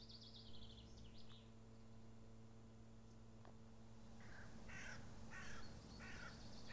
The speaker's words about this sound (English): Small pack of crows there, just flying up and around.